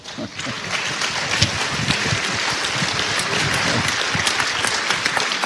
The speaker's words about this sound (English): I think your applause is for the Holy Spirit. Ich denke, Sie applaudieren nun dem Heiligen Geist.